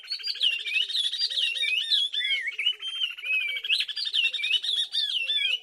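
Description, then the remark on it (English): A pair of oriole warblers from Senegal sings a continuous duet: the female keeps time with a rising series of rapid staccato notes beneath the male's bright, swooping whistles, loud, with no other sounds. “In this duet of oriole warblers from Senegal, the female keeps time with a rising series of staccato notes as the male whistles along.”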